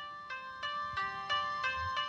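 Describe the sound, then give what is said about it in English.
A cell phone ringtone plays on its own as the phone is called, a bright electronic melody of sustained tones pulsing in a quick, steady rhythm of about six beats, moderately loud. “has a cell phone, too. I don't know what the ringtone sounds like.”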